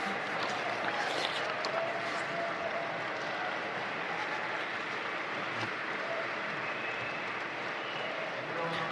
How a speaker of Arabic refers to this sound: دعنا نعبر عن امتناننا لعملك الدؤوب. باولو رودريغيز نائب رئيس نطاق المستوى الأعلى في بورتوريكو، تصفيق حاد.